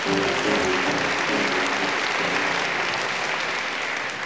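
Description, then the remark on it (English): Sustained audience applause for the players of a band with drums, bass and vibes, a dense, steady wash of many hands clapping at an even loudness for several seconds, tapering only slightly toward the end. “We'd love to have you share that beautiful applause with our players.”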